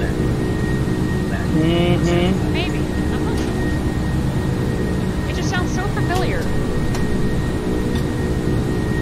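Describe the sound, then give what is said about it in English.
A steady, loud airplane engine drone fills the whole stretch with an unbroken low roar and faint hum, while brief muffled voices surface beneath it a couple of times. “Yeah, I know I've heard a plane like this before.”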